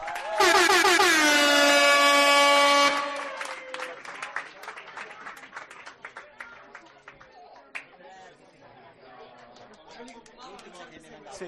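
A loud, steady air horn blares for about three seconds, then an audience applauds with brisk, dense clapping mixed with crowd chatter, gradually thinning out toward the end.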